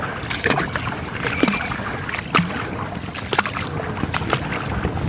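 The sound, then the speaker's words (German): Water sloshes and splashes steadily, with irregular surges and bursts as legs push through the sea, a constant churning wash with no voices. “Und der Verfasser dieses Podcasts wartet durch das Meer.”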